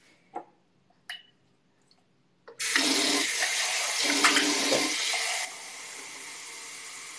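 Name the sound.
tap water running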